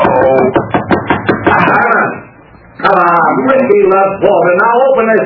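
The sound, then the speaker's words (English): A rapid series of firm, loud knocks on a door rattles out over the first couple of seconds, then stops as voices talk over the rest. “Now open this door.”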